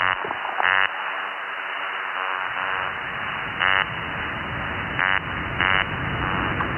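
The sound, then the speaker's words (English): Short, buzzy burping calls from a fish, produced with its swim bladder, four or so, spaced irregularly over a steady underwater hiss, clear, with no voices. “And then you have these burps.”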